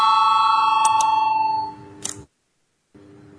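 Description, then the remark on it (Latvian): An electronic voting bell chime in a parliament session rings out with sustained tonal harmonics, fading over about two seconds, followed by a short burst of noise, a moment of silence, then a low hum. “Lūdzu zvanu balsosim par pirmo deputāta Girgena iesniegto priekšlikumu”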